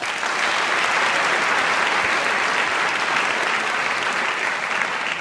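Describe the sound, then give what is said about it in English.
Steady, sustained applause from an audience, clapping again as Sheldon Krimsky is reintroduced so it can be fixed in the edit, fills the whole stretch, a dense wash of many hands clapping at an even loudness without a break or any voices standing out. “Just hold that thought, and I'm going to introduce Sheldon again, and if you could applaud again, we'll fix it in the edit.”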